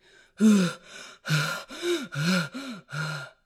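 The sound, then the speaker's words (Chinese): A voice imitates heavy, exhausted panting as the old wolf character, worn out from carrying, pushing and dragging boxes up to the attic: about seven breathy, voiced huffs and gasps in quick, uneven succession, fairly loud and strained, with no words spoken. “老狼扛呀，推呀，拖呀，累得气喘吁吁，汗流浃背。”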